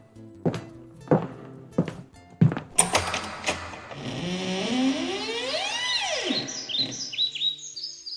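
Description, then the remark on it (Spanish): Four heavy, evenly spaced thuds, then a long, wavering creak as a man opens a black door and it swings open, while bright bird chirps and twittering rise over it. No one speaks. “Sin pensárselo, el hombre avanzó hacia la puerta y la abrió.”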